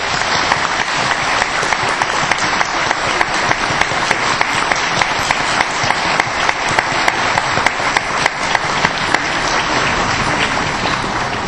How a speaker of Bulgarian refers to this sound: Моля и моля, преди да започнете да изпратим с аплодисменти нашите официални гости.